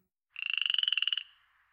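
A frog gives a single fast, pulsing trill, about a second of rapid, evenly spaced high-pitched pulses that ends abruptly and leaves a faint fading tail. No one speaks.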